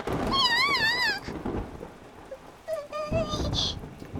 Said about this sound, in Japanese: 雷まで。怖いよ。